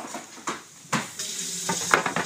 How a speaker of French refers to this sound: Ah, désolée, là, je suis en train de cuisiner. Je fais un tagine, s'il te plaît. Ouais, un tagine.